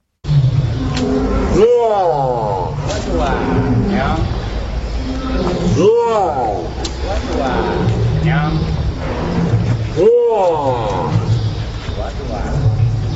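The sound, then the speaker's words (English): An elephant named Koshik mimics Korean words such as hello, good, no, sit down and lie down by putting its trunk inside its mouth, producing three loud, drawn-out word-like vocalizations at regular intervals, with a man from the zoo speaking to it in between. “Koreans hear an elephant talking”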